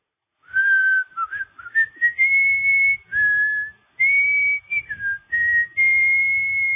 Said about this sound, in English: That's whistling. I was whistling the first few lines of the song, in fact. Well, the music for the song.